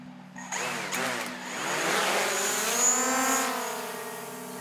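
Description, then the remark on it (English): A drone launching out over the Gulf: its motors spin up abruptly into a loud, rising whir, then settle into a steady, high-pitched buzzing hum that wavers slightly in pitch and eases off a little at the end. “We launch the drone out over the Gulf and then double back toward the port, making sure to keep a legal flight path.”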